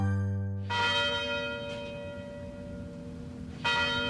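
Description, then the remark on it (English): The University of Detroit Mercy tower bells chime out with two strong strikes, the first near 0.7 seconds and another around 3.6 seconds, each leaving a long, shimmering ring that hangs in the air between them. “The University Tower chimes ring in another session of Ask the Professor”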